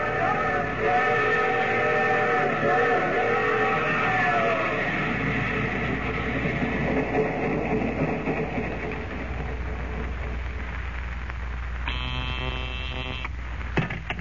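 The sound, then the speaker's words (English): A steam train rumbles steadily, its whistle wailing in a long, wavering tone at the start and returning in a short, loud blast near the end. “Well, the train halted, then.”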